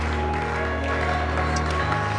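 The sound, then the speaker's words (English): An audience claps together in a dense, steady wash of applause that stays at an even level throughout, with a low sustained tone humming underneath. “If you want to stop after 30 seconds, but I want you to clap.”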